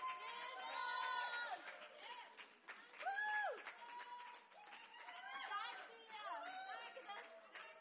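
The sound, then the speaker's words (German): A crowd cheers and shouts excitedly for Jesus during worship, voices rising in overlapping whoops and calls, with scattered clapping underneath. The noise stays loud and continuous throughout. “Jesus hat richtig viel Jubel verdient!”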